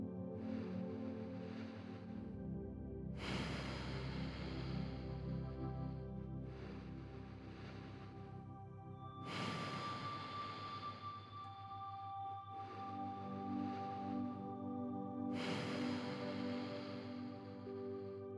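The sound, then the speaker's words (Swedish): Slow, deep breaths drawn in and pushed out through the nose in a steady alternating rhythm of about three breaths, over a soft sustained musical drone. No one speaks. “Ta ett par ordentliga djupa andetag då du andas in och ut genom näsan.”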